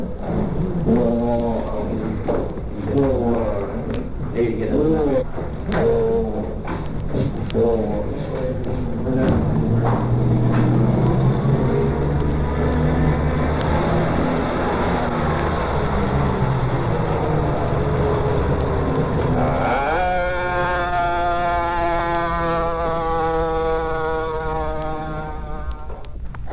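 An emergency vehicle siren wails continuously over a low engine rumble, its pitch sweeping up and down, then switching to a different, steadier tone pattern near the end.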